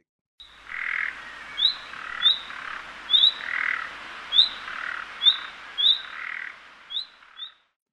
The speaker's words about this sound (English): Surprisingly, that rasping frog-like growl belongs to perhaps the most musical of all our birds, the nightingale.